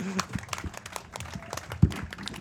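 A short burst of audience applause, a steady patter of many hands clapping at moderate loudness, with voices murmuring underneath and one sharper low thump near the end.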